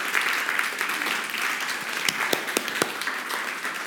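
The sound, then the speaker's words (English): A crowd applauds to thank its leaders, a steady, dense wash of many hands clapping at an even level, with a few sharper individual claps standing out toward the end. “Can we give them a round of applause and thank them?”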